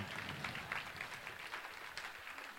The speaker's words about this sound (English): You can clap there if you like.